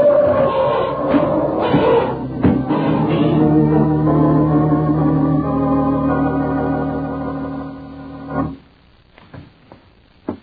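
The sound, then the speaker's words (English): Loud, brassy elephant trumpeting fills the scene in long overlapping blasts, then cuts off abruptly, leaving a few scattered thuds and rustles as the animals move on. Four elephants, each ridden by a man, pass by. “It was Mark atop an elephant. And behind him were three other men on more elephants.”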